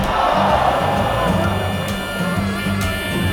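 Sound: crowd noise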